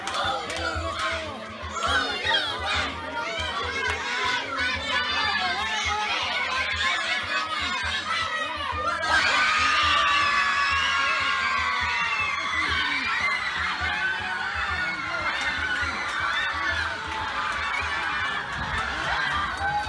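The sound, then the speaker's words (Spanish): A dense crowd of many Uruguayan voices, children, adolescents and adults, shouting and cheering together in homes and schools, loud and continuous, swelling noticeably louder about halfway through and staying at that excited pitch. “Bueno, con todo ese griterío que natural de cualquier uruguayo, niño, niña, adolescente, adulto mayor, que bueno, pudimos observar en cada una de las casas, también así en las distintas escuelas, en los colegios”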